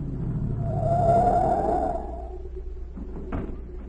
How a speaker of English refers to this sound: A minute later, a car pulled up at the watchman's gate, and Agent Z stepped out. The gate was closed.